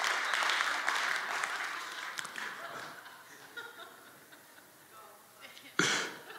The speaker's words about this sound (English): So this morning, that's probably worth at least a golf clap.